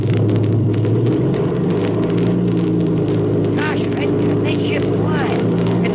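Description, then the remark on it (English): A warmed-up airplane engine roars loud and steady as the plane takes off, a deep droning rumble that holds throughout without letting up, with a few faint chirpy squeals rising above it midway. “the engine's warmed up. We'll take off first, and Steve's going to follow.”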